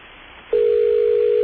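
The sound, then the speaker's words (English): A telephone ringing tone, from a phone ringing in a building, sounds over a faint, hissy phone line: after a brief pause, a single steady electronic tone starts and holds loud and unbroken to the end. “That's the sound of a phone ringing in a building that's probably covered with lava right now.”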